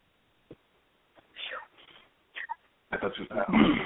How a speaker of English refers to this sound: I got to clear my throat.